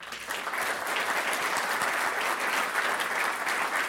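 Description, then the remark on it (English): A crowd claps steadily and densely for several seconds, a continuous wash of many hands applauding at fairly even volume without pauses. “I want you to give yourselves a big hand clap.”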